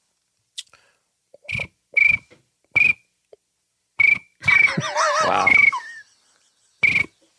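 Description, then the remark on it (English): Someone mimics a cricket with their voice: short, shrill chirps repeated at uneven intervals, fairly loud. Midway, a longer, warbling burst of voice briefly blends with a spoken exclamation. “But I think my cricket is the best. Let's hear your cricket.”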